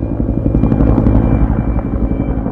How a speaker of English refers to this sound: Cobra helicopters and other military aircraft provide backup to the troops.